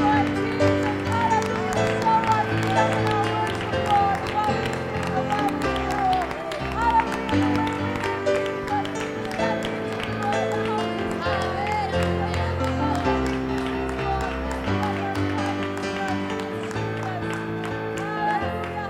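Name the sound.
audience clapping hands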